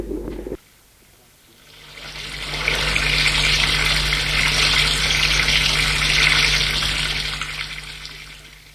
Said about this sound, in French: Je prends une douche.